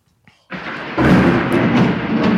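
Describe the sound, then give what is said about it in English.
A loud crack of thunder bursts in suddenly and rolls into a heavy, sustained rumble that stays strong to the end, with no voices over it. “That was thunder.”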